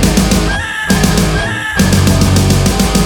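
Harsh, raspy barn owl screeches come in three loud, drawn-out bursts separated by short pauses, piercing, with no voices.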